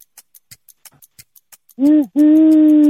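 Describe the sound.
As part of a game of imitating animal sounds, a person imitates an owl with two voiced hoots, a short one and then a longer, sustained one, loud, after a series of faint rhythmic clicks.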